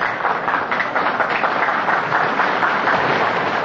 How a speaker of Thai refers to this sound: ขอขอบคุณที่ปรบมือด้วยครับ